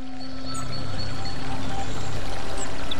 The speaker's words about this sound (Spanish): Ese momento en que te descalzas, metes un dedo en el arroyo y verano en Córdoba.